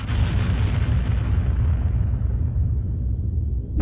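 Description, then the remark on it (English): A loud explosive impact of plasma cannon fire bursts out as it rocks a shuttle, then a deep, heavy rumble sustains as the bright crackle fades, with another sharp hit just at the end. No voices. “An impact rocked the shuttle, throwing Mors hard against the bulkhead, driving the breath from her lungs.”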